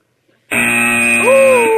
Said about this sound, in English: There's going to be a 30-second, not bell, buzzard. Can we hear the buzzer, please?